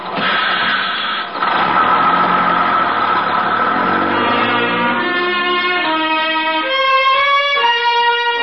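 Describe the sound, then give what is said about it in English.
A bus engine hums steadily, then its drone climbs in pitch through several stepped whines as if pulling away, as the bus leaves a city for desert country. No voices, just the continuous mechanical rumble throughout. “As buses go, it was pretty quiet.”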